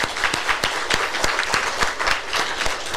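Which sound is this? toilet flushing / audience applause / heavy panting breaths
audience applause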